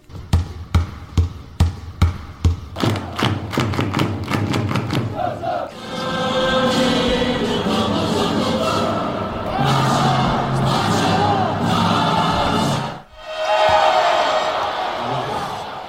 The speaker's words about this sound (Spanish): Esa bocina mítica de pabellón.